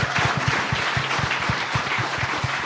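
A crowd applauds the event's organizer, a dense wash of many hands clapping at once with a few louder individual claps standing out in a quick, irregular rhythm, sustained at an even loudness throughout.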